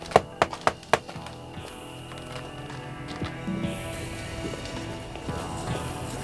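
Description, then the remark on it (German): Four quick, sharp knocks on a wooden door of Swift's Garage at night, by the First Investigator, in a fast, even rhythm, followed by a soft, sustained musical background with no further knocking. “Der erste Detektiv klopfte an.”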